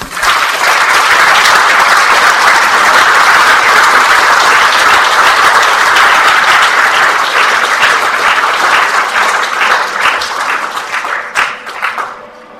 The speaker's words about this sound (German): Ich denke, es war für uns alle eine große Bereicherung und das ist auch nochmal ein Applaus wert.